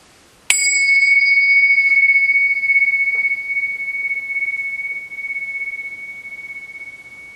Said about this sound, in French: Quoi que vous faites, faites un petit stop, juste pour écouter cette cloche jusqu'à ce que le son ne soit plus audible.